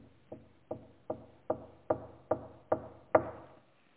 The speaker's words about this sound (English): Peter just kept knocking.